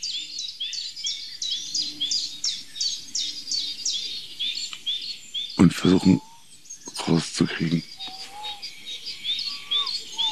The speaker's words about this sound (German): ist vielleicht auch möglich, dass ein Hybrid ist, eine Mischform von Gartenbaumläufer und Waldbaumläufer. Können die beiden sich überhaupt paaren? Gibt es da Mischsänger?